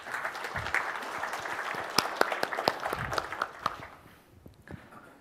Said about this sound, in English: Please give him a warm applause.